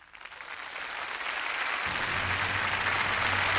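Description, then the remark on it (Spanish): Audience applause as conductor Pierre Boulez walks onto the stage before conducting the Berlin Philharmonic Orchestra in Ravel's Alborada del Gracioso: a dense crackle of many hands that swells from moderate to full and steady loudness, with a low hum entering partway through and no voices. “Pierre Boulez ha salido al escenario, recibe los aplausos del público y con la batuta en la mano sube al podio para dirigir a la Orquesta Filarmónica de Berlín en la interpretación de Alborada del Gracioso de Maurice Ravel.”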